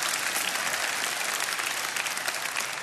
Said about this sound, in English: Lockport, I better hear you clapping too. I ain't kidding. That's better.